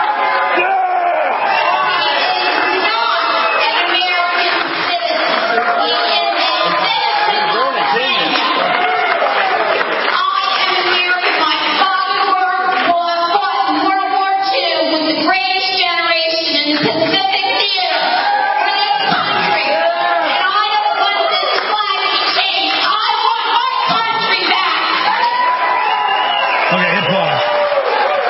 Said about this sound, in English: Then he says, I believe Obama's a real citizen. They all booing.